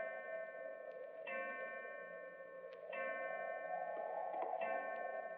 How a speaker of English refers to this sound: Clock.